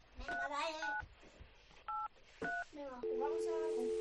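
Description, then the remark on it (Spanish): A telephone number is dialed: a quick series of beeping dual-tone keypresses, some clustered and others spaced apart, followed by a steady sustained tone, with faint voices murmuring underneath. “Bueno, vamos a llamar.”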